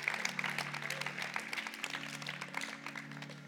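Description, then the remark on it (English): An audience at church claps steadily, applauding the preacher's point that God loves them. A dense, continuous wash of applause, many overlapping hand claps with a low sustained hum underneath and no voices over it. “You can clap for that.”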